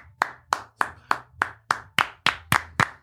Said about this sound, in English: Okay. Well, what are we clapping for? We did it, guys. We did it.